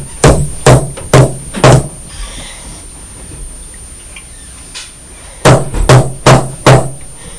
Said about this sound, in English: What's she doing? Banging this hammer.